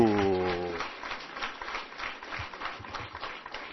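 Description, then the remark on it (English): A crowd claps for a newly elected alternate board member from Angola at a ceremony. The applause is a dense, steady patter of overlapping hand claps that continues throughout, following a brief tonal voice at the very start. “And now, a round of applause for the alternate you have all elected to your board to steer your affairs.”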